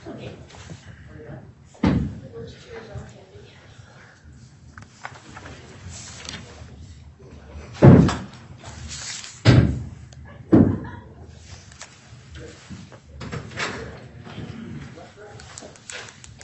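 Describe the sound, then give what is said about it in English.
A heavy courtroom door swings slowly closed, with several dull thuds and clunks spread over a few seconds as it settles shut, with faint background voices. “Let me wait for this door to shut before I see me.”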